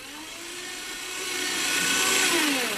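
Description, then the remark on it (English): A paper shredder in an office shreds a piece of paper, its motor whining in a low, steady hum over a harsh, crinkly grinding that swells a little louder toward the end. “And the paper went right into the shredder.”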